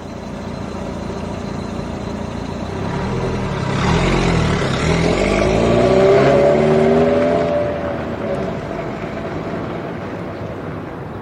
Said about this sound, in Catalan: Els cotxes eren elèctrics i sonaven així.